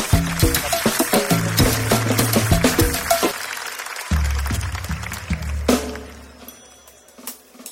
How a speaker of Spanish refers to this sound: Un aplauso para mis amigos, por favor.